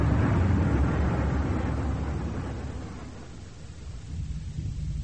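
distant bomb explosions

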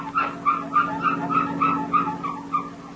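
squeaking car needing lubrication

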